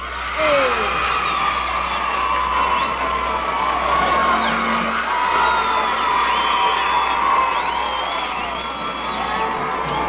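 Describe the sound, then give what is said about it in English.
A lively crowd of kids cheers and shouts continuously at the Hi-Fi Club broadcast from Holy Rosary Academy on a Friday evening in January 1964, with high-pitched whoops and yells rising over a dense, steady roar of voices for the full ten seconds. “We have a very small crowd on hand.”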